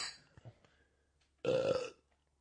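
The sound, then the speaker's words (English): A single loud, throaty burp lasting about half a second, with a buzzing low-pitched tone, follows a few faint clicks and rustles; no one speaks. “Sorry, had to purge.”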